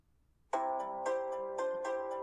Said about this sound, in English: I'll give you my current ringtone.